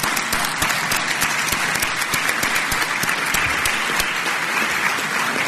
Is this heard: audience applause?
yes